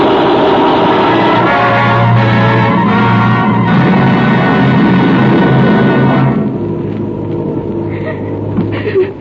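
A truck engine drones steadily with a low, throaty rumble and road noise, easing slightly in intensity after about six seconds as the motor keeps running.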